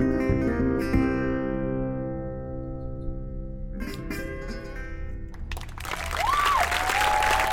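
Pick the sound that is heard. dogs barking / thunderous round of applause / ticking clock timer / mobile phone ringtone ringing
thunderous round of applause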